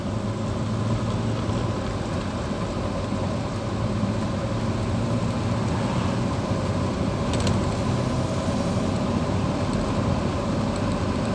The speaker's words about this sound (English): I know, I'll just park in the middle of the road.